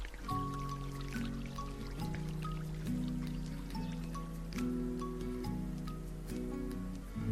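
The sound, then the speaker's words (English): Gentle trickling fountain water from a video game, a steady looping burble with scattered drips over soft sustained tones, no voices. “All right, so there's the fountain.”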